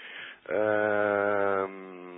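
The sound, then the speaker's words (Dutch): Radio navigation signal noise: a steady, muffled radio hiss that runs throughout, briefly joined by a louder, low droning buzz for just over a second in the middle. “Digitaal signaal. Je hoort het ook continu als een soort ruis.”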